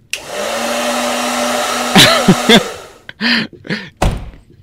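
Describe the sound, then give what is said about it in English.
A bathroom sound effect of a blow dryer running with a steady whirring hum and airy rush for about three seconds, then sputtering through a few short bursts before a final thump. “Bathroom, aerosol can, blow dryer.”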